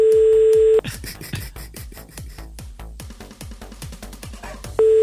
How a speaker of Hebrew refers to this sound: זה לוקח כל כך הרבה זמן עד שהם עונים לטלפון, זה משגע. מה, זה טלפון ציבורי, תגיד?